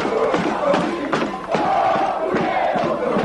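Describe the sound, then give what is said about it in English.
A large crowd of protesters in Buenos Aires in 2001, angry at banks freezing their savings, chants and sings together in a loud, steady roar, with rhythmic sharp bursts like clapping or banging punctuating the massed voices. “I think you guys all just like to get together and sing and clap and jump around in a group.”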